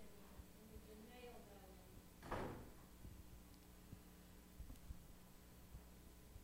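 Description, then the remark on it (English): A door swings shut once with a soft, muffled thud partway through, during a prayer meeting, set against a steady low hum and faint background murmur. “Imagine how much quieter that gets when that door shuts, ain't it?”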